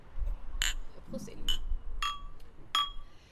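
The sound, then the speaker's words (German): Glasses clink together in a toast, four or five bright ringing taps spread over a few seconds, with low murmuring voices underneath. “nehmen wir mal so ein Schlückchen hier. Ja, Prost. Prost, ihr Lieben.”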